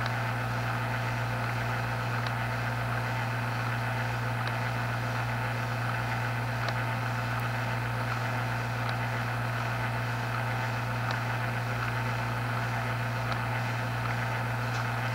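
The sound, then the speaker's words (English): The steamboat Casca pushing a barge upstream toward Whitehorse, heard as a steady, low mechanical drone with a deep engine hum that holds constant throughout, unbroken, with no voices. “Here comes one of the steamboats pushing a barge upstream.”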